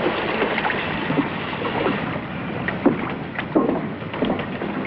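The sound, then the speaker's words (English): Two people paddle a man's boat to shore, with a steady wash of splashing and sloshing and a few louder dips and strokes standing out at irregular intervals. “Soon after, they ride in the man's boat, paddle to shore.”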